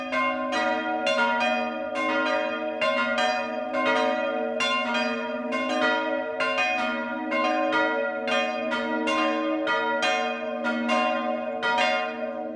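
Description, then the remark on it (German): Church bells in Medlitz, Bamberg district, Bavaria, ring the 12 o'clock noon peal, several bells striking in a continuous overlapping rhythm with rich sustained tones, full, with no voices. “Das Mittagsläuten kommt heute aus Medlitz im Landkreis Bamberg.”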